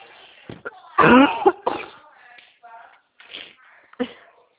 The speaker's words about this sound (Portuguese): Não, tô tossindo mesmo.